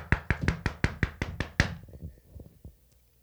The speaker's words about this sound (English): Oh, all right, the door's closed. Go ahead and knock. Oh, no, no, you knock. No, no, you knock. No, I'll knock.